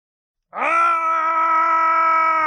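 After a brief silence, a loud, sustained scream from a scene of the TV series Wheel of Time kicks in and holds at a steady pitch for about two seconds, strained and throaty, with no talking over it.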